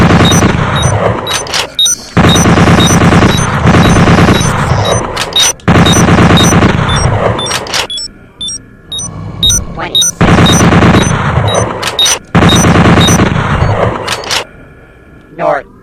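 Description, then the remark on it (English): Loud, rapid bursts of automatic bolt gun fire from a video game, coming in several long volleys separated by short pauses, with sharp individual shots cracking between them over a dense, rumbling background. “Semi-automatic bolt gun. Automatic bolt gun.”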